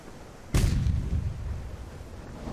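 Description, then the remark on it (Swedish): A single loud cannon salute shot fired from a ship leaving Stockholm: a sharp, explosive crack followed by a long, deep rumble booming between the cliffs and the city, slowly fading over the next two seconds. No voices are heard. “Vi sköt salut så det dånade mellan klipporna och staden.”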